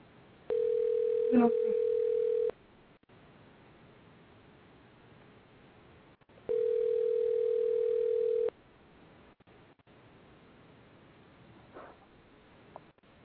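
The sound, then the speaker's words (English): An outgoing phone call to High Talk Radio rings: two long, steady, mid-pitched ringback tones of about two seconds each, separated by a pause of roughly four seconds, over a faint background hiss. “And they probably sitting there looking at the phone like, who the fuck this is? They answer that.”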